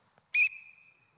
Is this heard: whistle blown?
yes